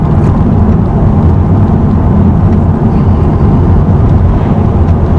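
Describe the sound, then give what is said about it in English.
A loud, steady low rumble of 5 o'clock evening traffic on Highway 264, a continuous wash of vehicle noise with no clear breaks or individual horns, and no one speaking. “It's the 5 o'clock traffic on Highway 264.”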